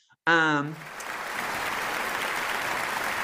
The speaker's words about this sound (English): We'll keep this applause going forever.